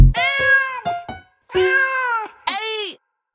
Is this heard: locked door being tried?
no